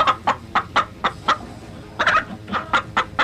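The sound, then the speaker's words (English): A chicken clucks in quick, repeated bursts, about a dozen short clucks in two rhythmic runs separated by a brief pause, clear with no talking; a sound effect. “You know, chicken soundbite.”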